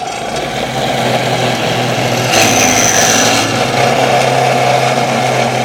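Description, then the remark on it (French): A metal cold saw runs steadily in a metal workshop with a loud mechanical drone, and a higher whining tone rises briefly in the middle as the blade bites into metal. No one speaks. “Alors là, on est dans l'atelier métal et on a une machine qui nous permet de couper du métal qui s'appelle une scie fraise.”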